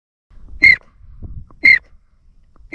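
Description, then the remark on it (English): A Wyatt's Waterfowl Company 4-in-1 duck call whistle sounds three short, bright, high-pitched peeping notes, evenly spaced about a second apart, imitating a pintail, with faint low rustling between the notes. “Hey, is that one of those new Wyatt's Waterfowl Company 4-in-1 duck whistles I keep hearing about?”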